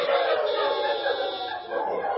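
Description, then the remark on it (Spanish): A dense chorus of many dogs out in city streets barking and howling at once, overlapping continuously with no pauses, loud and busy, heard throughout the city. “Los perros salen a las calles. Sus ladridos se escuchan por toda la ciudad.”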